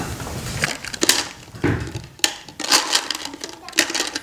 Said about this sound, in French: Mon instrument est une guitare à casse.